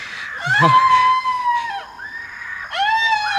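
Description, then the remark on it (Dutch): A woman screams in long, high-pitched, piercing cries, one drawn-out wail sliding down before another starts. The screams are loud, with no talking. “Die schreeuwt en schreeuwt en schreeuwt.”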